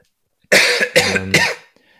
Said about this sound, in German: Wir nehmen jetzt auch schon sehr lange auf und ich glaube, jeder kennt diesen Moment, wenn es vom Husten her dann einfach irgendwann immer schlimmer wird.